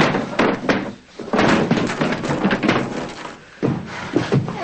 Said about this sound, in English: yanking out the dresser drawers, dumping them out and throwing them onto the floor.